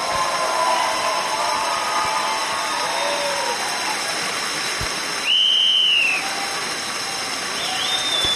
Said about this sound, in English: They're lifting the cards for the first message. It says it's the "We love you" message, and then the whistle command turns it over.